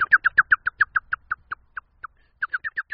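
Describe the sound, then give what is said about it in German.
A 49-year-old man imitates a blackbird's intense alarm call at a cat approaching its nest: a rapid series of sharp, high chinking notes that slows and thins out, pauses briefly, then bursts again in a quick run, loud. “Man kann also anhand der Geräusche mit der Stimme der Amsel hören, wie die Katze sich durchs Gelände bewegt.”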